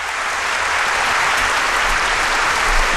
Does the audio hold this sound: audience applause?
yes